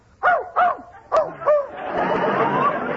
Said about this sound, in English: Just as I thought, you do have a dog in here. He's in that closet. Quiet, Fletcher. Quiet.